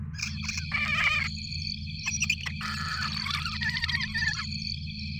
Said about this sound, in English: What the hell is that? Analyze the audio. Hang on. Sounds like giant crickets.